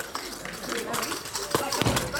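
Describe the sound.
A man knocks his ring against the metal goalposts of a football goal during penalty shots a handful of times at an irregular pace, metal on metal, each tap a sharp, bright metallic clink over a steady background hiss, with faint voices underneath.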